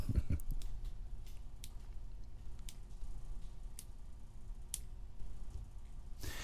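Sharp finger snaps, about ten of them at irregular intervals, crack briefly over a low, steady rumble, with no talking.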